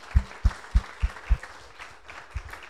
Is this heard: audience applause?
yes